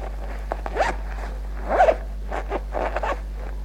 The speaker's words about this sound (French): Là, il ouvre la fermeture éclair de sa braguette.